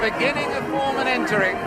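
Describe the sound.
A large stadium crowd boos George Foreman in a steady, dense roar of many voices as he appears in the 20 Mai Stadium a few minutes after Muhammad Ali before their boxing fight, with low drawn-out jeers rising and falling together for the whole stretch.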